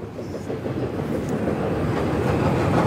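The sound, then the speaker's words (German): A train rumbles steadily along the Greece–Serbia railway line through the industrial town of Veles, North Macedonia, a loud continuous low roar with faint rhythmic clatter that grows slightly louder as it passes, with no voices. “Die Eisenbahnlinie von Griechenland nach Serbien verläuft mitten durch die nordmazedonische Industriestadt Veles, rund 100 Kilometer von der Grenze zu Griechenland entfernt.”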